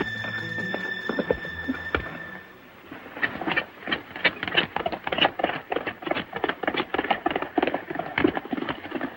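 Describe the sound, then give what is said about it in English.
Rapid, loud hoofbeats of a horse at full gallop pound in a steady, driving rhythm as John rides his horse in a chase, following a brief opening of sustained tones and scattered knocks. “Jumping on his horse, John chases him.”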